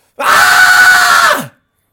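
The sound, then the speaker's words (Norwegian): A single loud, sustained scream from one voice, held steady for about a second and a quarter before cutting off sharply, with silence on either side. It is a deliberate re-enactment of a raw primal yell. “Men bare, hvis du går litt vekk fra mikrofonen, kan du bare gjenskape det primalskriket?”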